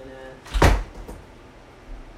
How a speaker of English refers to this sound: I'm leaving now to go get my chain. If I can open this damn door. Okay, here we go.